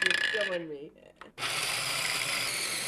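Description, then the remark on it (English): A kitchen power tool whirs loudly while making lekvar, a jam filling for kolač, briefly stops with a clunk, then starts again into a steady, high-pitched motorized drone that runs to the end, with faint voices early on. “Because it's not really getting dirty, but it's working with power tools.”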